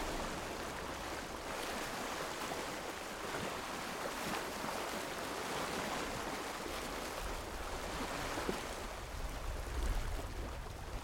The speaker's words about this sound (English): These are some sounds from a cold February day on Bembridge Beach on the Isle of Wight. This is a recording, Bembridge Beach, windy day, right by the seaside, right by the shore, to get some wave noise.